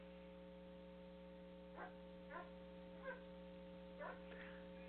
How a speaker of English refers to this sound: these dogs are riled.